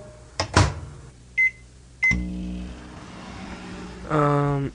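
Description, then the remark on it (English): A microwave door thunks shut and two short beeps sound, then the oven starts up with a steady, buzzing electrical hum that grows louder near the end. “Pop it in the microwave, yeah?”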